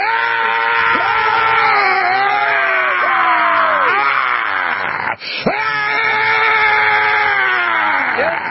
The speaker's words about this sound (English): I love when you yell, man. I love whenever you shout. So if I could shout with you, man, a battle cry. I want to do it, but my voice is almost gone, but I'll do it.